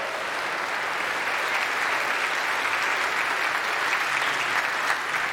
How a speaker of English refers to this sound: Good morning. Happy Mother's Day. Special greeting to all of our moms here today. Let's give a big round of applause, okay?